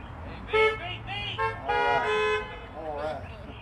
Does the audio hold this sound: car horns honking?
yes